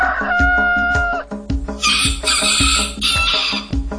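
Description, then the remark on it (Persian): Three roosters crow loudly at dawn in a few drawn-out, strained calls, layered over a steady, bouncy music beat with regular thumping drums. “سه تا خروس دم صبح قوقولی قوقو میخونن.”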